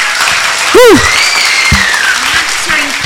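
An audience claps steadily for about three seconds, a dense wash of hands, with a short rising-and-falling whistle near the start and a faint thin whistle gliding down through the middle.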